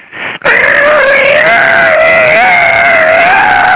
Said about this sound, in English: Louder and louder went that stool. You know, a couple of weeks later when we came back in there to eat, that stool had been oiled and it didn't squeak like that anymore.